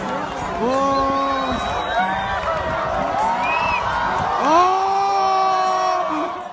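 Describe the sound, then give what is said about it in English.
A large crowd of people on a beach in Indonesia cheers and whoops together while watching a hybrid solar eclipse, many voices rising in long overlapping shouts, with a steady loud roar that swells again near the end. “In this video from Indonesia, a crowd of people on a beach watch the moon creep in front of the sun.”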